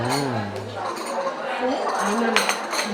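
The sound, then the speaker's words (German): Cups of chai and dishes clink as they're set on a table: a few sharp, bright taps scattered irregularly, with people's voices murmuring underneath throughout. “Oh, da kommt unser Chai.”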